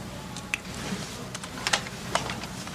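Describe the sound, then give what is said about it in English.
Irregular clicking of keys being typed on a computer keyboard, a few sharper taps standing out over a steady low background hum, with no one speaking. “Just use the keyboard. The keyboard. How quaint.”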